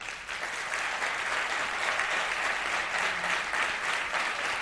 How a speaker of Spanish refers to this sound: Lo dicho, hoy estamos haciendo la linterna desde Málaga y a mí me da, por razones obvias, mi teniente, que aquí hay mucha gente que quiere mandar un aplauso a toda esa gente que se viste de verde.